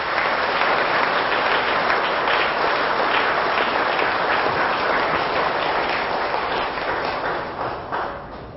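An audience breaks into loud, sustained applause in approval of saying no to feelings of self-inferiority, a dense wash of many hands clapping that holds steady for several seconds and then thins out toward the end.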